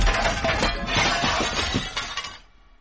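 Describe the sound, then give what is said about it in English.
A loud crash of shattering glass and splintering wood, a dense burst of breaking debris lasting over two seconds before cutting off abruptly, with no voices. “I heard the most dreadful noise of splintering wood and shattered glass.”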